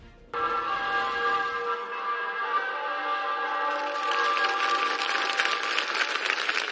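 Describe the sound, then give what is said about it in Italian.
A bell rings out in a full peal with sustained, ringing overtones while clapping from a crowd swells underneath, growing into a long, dense, steady applause over the last few seconds, at the funeral of Maria Paola Gaglione in Caivano. No one speaks. “Campana distesa e un lungo applauso hanno salutato per l'ultima volta Maria Paola Gaglione, la ragazza di Caivano,”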